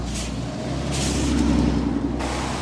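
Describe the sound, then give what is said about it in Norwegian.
A bus rumbles past in Drøbak, a steady low engine drone with bursts of hissing air, swelling slightly in the middle before easing off. “Kjem bussen forbi, ja.”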